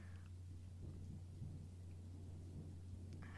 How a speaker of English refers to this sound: It's just a little storm.